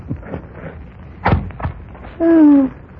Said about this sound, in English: Yeah, I'll put another log on.